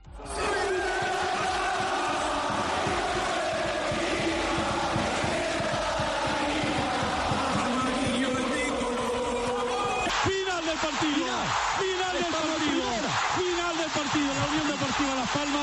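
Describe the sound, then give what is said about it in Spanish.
A loud, dense crowd of Unión Deportiva Las Palmas football fans chants and cheers, celebrating the club's promotion to Spain's Primera División, voices massed together throughout, with rising and falling shouted chants standing out in the second half. “Pero estos son los sonidos del sábado, del domingo, de hoy, del ascenso de la Unión Deportiva a Primera.”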